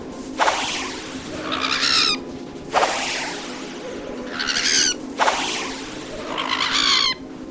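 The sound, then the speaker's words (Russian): Attacking birds screech loudly in three repeating waves, each beginning with a sharp whooshing rush of wings and ending in shrill, wavering cries; their copper feathers whistle like arrows. No one speaks. “Птицы нападают на нас. Медные перья свищут, как стрелы.”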